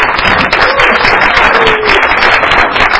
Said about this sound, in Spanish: Y el aplauso es así.